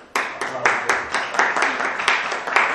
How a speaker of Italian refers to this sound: Direi che l'applauso ci sta tutto